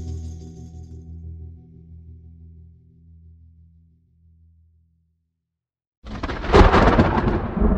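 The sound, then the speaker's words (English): A deep, rolling rumble of thunder slowly fades to near silence, then a sudden loud crack of thunder bursts in and keeps crashing. “The storm broke in Chattanooga one night in 1906, when a young woman was the victim of a violent crime.”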